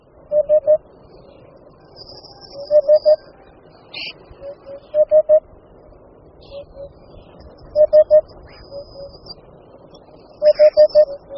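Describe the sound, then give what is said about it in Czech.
A Eurasian hoopoe repeats its soft, hollow, monotonous three-note call, a low 'oop-oop-oop' recurring every couple of seconds, clear against a quiet background. “Dosti jednotvárný hlas, který je mezi našimi ptačími hlasy málo obvyklý, patří Dudkovi chocholatému.”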